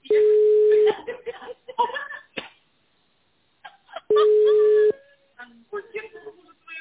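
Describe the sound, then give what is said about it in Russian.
Two long, steady, mid-pitched telephone line tones, each about a second, sound loudly a few seconds apart after a call connection is established, with scattered howling, yelp-like noises and chatter filling the gap between them. “Соединение установлено. Пожалуйста, подождите.”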